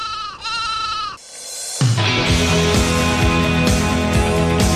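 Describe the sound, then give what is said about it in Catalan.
In a Spanish radio advert for Tot Descans in Villarreal, a sheep bleats twice in quick succession, a wavering, nasal, mid-pitched cry, before a steady, loud musical backing starts up and continues to the end. “¿Harto de compartir almohada con las ovejitas?”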